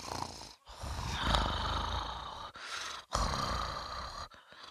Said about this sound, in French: L'ogre se mit alors à les compter et recompter, inlassablement jusqu'à sa tête tombe sur sa poitrine et qu'il s'endorme. Son ronflement était plus fort que tonnerre.